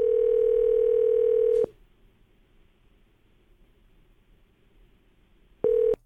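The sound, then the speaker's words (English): A telephone ringing tone heard through the receiver as the K99.1 FM radio station calls a listener: one long, steady electronic burst, a quiet pause of about four seconds, then the tone starting again, with no one talking. “Speaking of working it, here's the last number. Let's see if we can get the phone to ring.”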